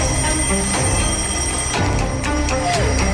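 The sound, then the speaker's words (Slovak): Eight alarm clocks, set for early morning at the Chimneys mansion as a prank to get a sleeper out of bed, ring at once in a loud, continuous, jangling clatter, with steady high-pitched tones and rapid metallic bell trills overlapping throughout. “8 budíkov nastavili na skoré ráno, má to Gary ho konečne prinútiť vstať z postele.”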